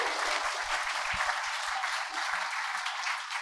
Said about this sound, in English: I think we've got the best in the business at the club, so they deserve huge credit. Hear, hear to that. Round of applause for that, please.